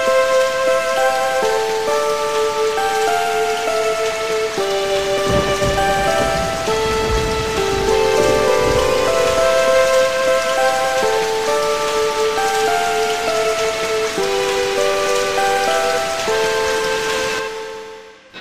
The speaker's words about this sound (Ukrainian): Та раптом небо потемніло і теплий дощ почався.